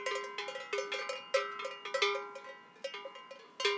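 Several bells on livestock grazing in the high mountains clank irregularly and overlap, their metallic tones ringing out at varied pitches with uneven, jostling rhythm, as if from animals moving while grazing. No voices are heard.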